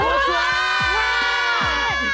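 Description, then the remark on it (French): A large crowd shouts back in unison, a loud, sustained roar of many voices with overlapping harmonic pitches, swelling and bending over about two seconds. “Normalement, vous devez crier avec moi!”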